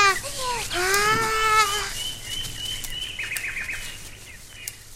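bird, birds chirping

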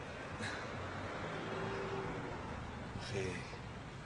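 vehicle, bus engine driving off

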